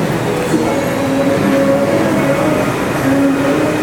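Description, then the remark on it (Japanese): A metro train at Phrom Phong station, around 8:10 in the morning, rumbles steadily, with sustained tonal hums and whines from its motors and wheels over a dense, continuous roar, loud throughout with no voices. “はい、ただいまプロンポン駅に着きまして、ちょうど8時10分ぐらいですかね。”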